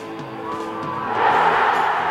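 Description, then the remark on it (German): A large football stadium crowd roars and cheers after Helmut Krämers takes a penalty kick in stoppage time, a dense wash of many voices that swells louder about halfway through and stays loud to the end. “Riesiger Jubel.”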